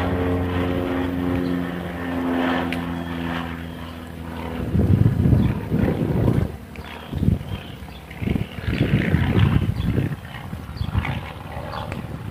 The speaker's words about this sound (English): Oh, two planes flying in formation. I wonder if it's warbird season.